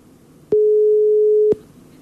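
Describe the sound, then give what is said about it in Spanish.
A single steady telephone ringback tone, heard while dialing a cellphone number, sounds for about a second, a loud pure electronic hum with clicks at its start and end, over a faint low background hiss. “Vamos a llamar a su número de celular que tenemos. Ahí está. Está marcando ahí.”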